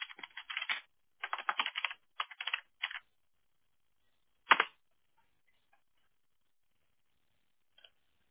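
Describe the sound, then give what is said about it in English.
Rapid bursts of computer keyboard typing, clattery, in several quick runs over the first three seconds, then a single louder key strike and a faint final click amid near silence. “It always makes it easier when you do the copy paste rather than me typing up everything and then it sounds like I'm beating up the keyboard.”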